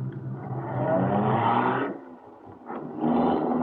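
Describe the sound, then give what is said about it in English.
A car engine roars loudly as it accelerates, drops off briefly, then surges again with a strong revving growl, with no talking. “Get in this car.”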